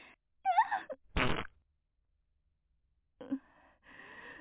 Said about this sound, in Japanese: お便秘真っ最中の、こんなおなら。汚い音で止まらないの。